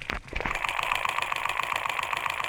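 A running motorcycle engine's valves rattle in a fast, steady, even ticking, like a sewing machine, picked up by a contact microphone touched to the engine where the valves are, as little arms push the valves up and down; a low engine hum underneath.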